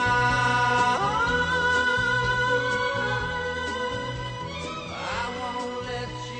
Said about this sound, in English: That was from the soundtrack of Midnight Cowboy, right here on Truly Local Radio, Northumberland 89.7.